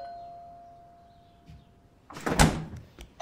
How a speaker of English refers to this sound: She opens the refrigerator.